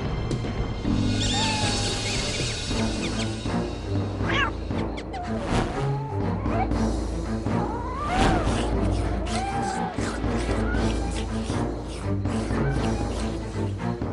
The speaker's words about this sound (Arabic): لقد جوعت القطة ولم أطعمها شيئاً منذ الأمس. هيا هيا ابتعدنا الآن واتركنا القطط تؤدي دورها.